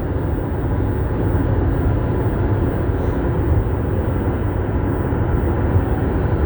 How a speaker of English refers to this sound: I'm on the highway, so I've got some traffic. I'm kind of not talking as smooth as I usually do because... traffic.